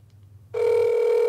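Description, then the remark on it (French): A low hum gives way to a sudden, steady electronic ringing tone on a phone line after a number the caller says is in England is dialed, reaching a Hogwarts School of Witchcraft and Wizardry phone line; loud and continuous through the end, with no one speaking. “Et là, on va le faire live, les amis. Je vais composer le numéro.”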